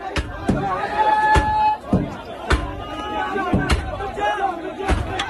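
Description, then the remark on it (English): An angry mob protesting U.S. airstrikes shouts and chants in a dense, continuous roar of many voices at the American embassy in Baghdad, Iraq, with repeated sharp bangs and slams at irregular intervals as they smash through the front entrance, loud. “An angry mob protesting U.S. airstrikes in Iraq and Syria that killed Iranian-backed Iraqi militiamen smashed through the front entrance of the American embassy in Baghdad.”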